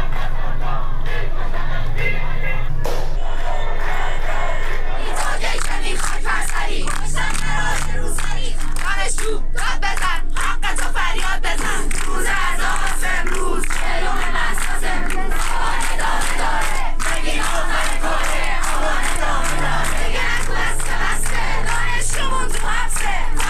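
A large crowd of protesters in Iran shouts and chants slogans against the Islamic Republic and its leader together in loud, rhythmic bursts, with voices rising in unison over a constant roar of many people, punctuated by sharper cries and occasional clapping.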